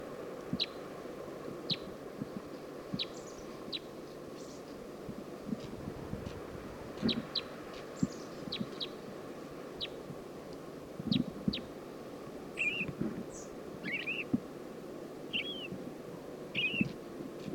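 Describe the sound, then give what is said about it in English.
A lone female crossbill, from a flock of four atop a Douglas fir along the road down to Stinson Beach, gives short, sharp, high chip notes, repeated irregularly and fairly faint over a steady low rumble; a male purple finch is beside her, and a few slurred, warbling bird notes join near the end. “Saw a flock of four crossbills up on top of a Douglas fir, and this is one lone female.”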